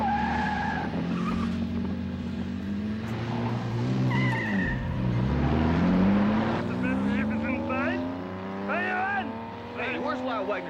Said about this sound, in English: I just saw some guy drive Lyle's car